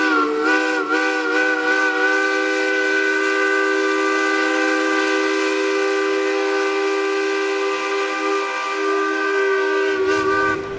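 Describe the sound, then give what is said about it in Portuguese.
The steamship Pará leaves the port of Recife, Brazil, with its lights off and escorted by the Navy: its loud, sustained whistle blows a steady chord-like tone for about ten seconds, backed by a continuous hiss of steam, then cuts off abruptly near the end. “Mas antes de chegar no momento mais triste dessa história, precisamos voltar para a hora em que o navio a vapor Pará deixa o Recife, com as luzes apagadas e escoltado pela Marinha.”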